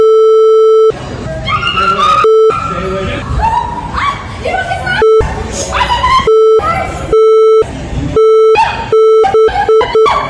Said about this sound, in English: It's all beeps.